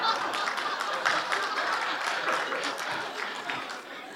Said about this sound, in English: Oh, the women are clapping their hands.